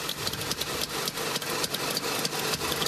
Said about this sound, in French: Allô, voilà, c'est le moteur dotant de la Trabant, évidemment, on l'a reconnu là. Et ça, la Trabant, la Trabi, c'est la petite Madeleine de Proust de millions d'Allemands, 60 ans aujourd'hui, effectivement